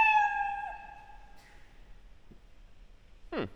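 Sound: cat meowing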